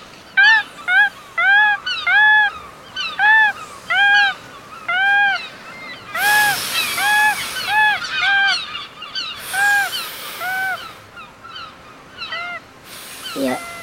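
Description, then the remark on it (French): Seagulls flying by the seashore call over and over in a steady series of short, loud, nasal cries, with occasional bursts of rushing, wave-like noise in the background, in a reading of the children's book Un ami pour Georges. “Et il entend les mouettes qui volent.”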